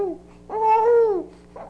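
A frowning baby being bathed makes a drawn-out, slightly rough vocal sound from the back of the throat, rising and falling for about a second, with a short softer murmur after. Not crying, fairly clear.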